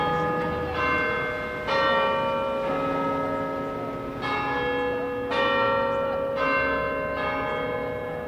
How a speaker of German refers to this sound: Selbst der Glockenschlag kopiert Big Ben.